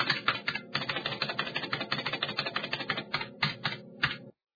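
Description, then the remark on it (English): Rapid, steady clatter of keys being typed on a computer keyboard, fairly loud, with a few brief pauses before it stops abruptly. No voices. “Press the keys.”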